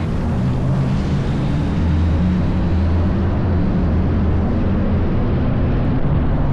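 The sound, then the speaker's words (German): A Hyperloop test capsule in the Netherlands glides through its vacuum tube with a steady, loud, roaring hum, deep rumbling tones under a broad rushing noise that holds constant throughout, with no voices. “Und so klingt die Versuchskapsel Hyperloop, wenn sie durch die Röhre schwebt.”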